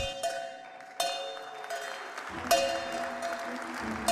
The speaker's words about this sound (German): Stilgerecht begann der erste Handelstag mit einem Countdown. Doch dann die Glocke.